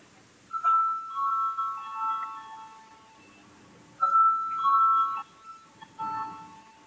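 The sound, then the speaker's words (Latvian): A parliament voting bell, called for before a vote on granting urgency to a bill amending the law on maternity and sickness insurance, rings in sustained, mid-pitched electronic tones, sounding in a long burst, a pause, then two shorter bursts, with no one speaking over it. “Lūdzu zvanu.”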